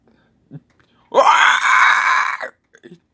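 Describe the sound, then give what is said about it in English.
A dog lets out one loud, harsh screaming wail that holds for over a second, strained and raspy, with a few faint short noises before and after. “A screaming retarded dog.”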